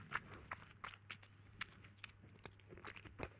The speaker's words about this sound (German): Du schmatzt aber wirklich ein bisschen laut.